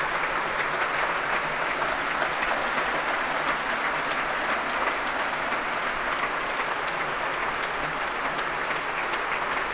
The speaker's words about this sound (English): Donald Runicles coming back on the stage now with Ashley Watts to take another bow. He's being warmly applauded by the BBC Scottish Symphony Orchestra as well, who are now rising to their feet to enjoy some of the applause as well.